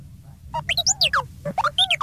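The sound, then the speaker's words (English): The Star Wars droid R2-D2 chatters in a rapid burst of electronic beeps and warbling whistles in the gantry office, the tones sliding sharply up and down in pitch. Loud and frantic, with a low rumbling hum underneath. “Back in the gantry office, R2-D2 beeped and whistled frantically as someone began banging on the locked door.”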